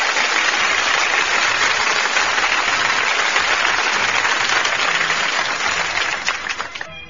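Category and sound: crowd, applause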